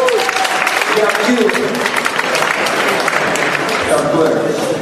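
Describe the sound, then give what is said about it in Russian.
A crowd claps steadily and loudly for about five seconds, a dense wash of hand claps offered as applause to God, with some voices calling out and cheering underneath. “Кто уже отсидел, подари Богу аплодисменты.”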